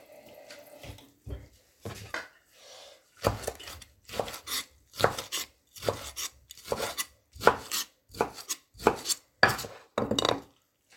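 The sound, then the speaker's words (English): Steady rhythmic chopping of a chef knife through food on a cutting board, about a dozen sharp strikes with brief pauses between them, with no voices. “Nice doing the chopping.”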